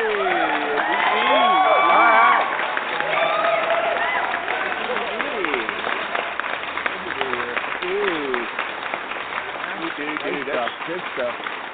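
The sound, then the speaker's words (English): A crowd claps and cheers steadily, loudest in the first couple of seconds, with shouting voices rising and falling over the dense patter of hands. “That's his own special applause.”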